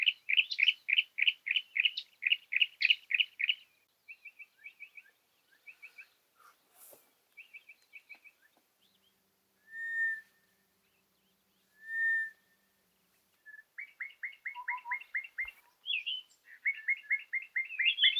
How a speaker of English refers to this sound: We were out in nature with friends, and that's better than doom scrolling on your phone. For example, I recorded some wonderful bird sound.